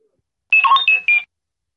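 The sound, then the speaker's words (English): Beeps of R2-D2, the little robot from Star Wars: a quick run of high electronic whistles and chirps that jump between pitches for under a second, with no talking. “Yeah, Star Wars, but what from Star Wars? R2-D2, the little robot.”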